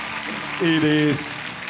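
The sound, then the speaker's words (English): An audience claps for all the women in a steady, even wash of applause, with a single voice briefly calling out over it in the middle. “Come on, let's give a big hand clap for all the women.”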